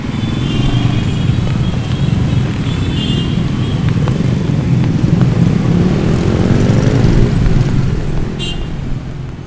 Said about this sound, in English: Traffic is really, really impactful on your life.